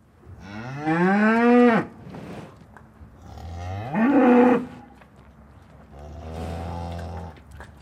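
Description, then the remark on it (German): Wagyu cattle on a farm in Hellbühl, canton of Lucerne, Switzerland, mooing in three long, loud calls, the first two rising and bending in pitch, the third lower and steadier, with quiet breathy gaps between them and no talking. “Nicht nur Hirsche leben auf ihrem Hof, sondern auch Wagyu-Rinder, bekannt unter dem Namen Kobe Beef.”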